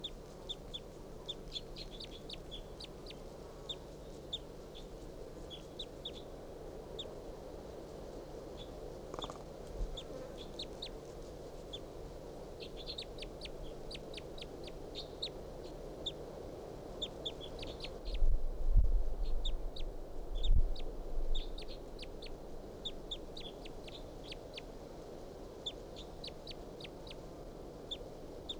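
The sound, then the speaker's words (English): Soft, high-pitched calls from a wild bird repeat in irregular bursts over a steady low background hum, with a couple of dull thumps late on. No one speaks. “And they're calling up their soft calls.”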